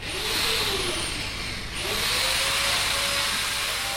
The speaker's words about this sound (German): Im malerischen Hafen von Húsavík wird im Unterschied zur Hauptstadtregion von Reykjavík gehämmert und gebohrt. Entlang des Wassers fahren Baggerpalette mit Backsteinen heran. Unweit des Kais werden neue Mauern hochgezogen.